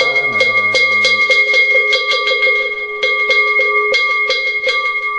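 A ritual bell is struck during Buddhist chanting in a quick, steady rhythm, each metallic hit adding to a bright, sustained ringing tone; a low chanting voice hums briefly at the start.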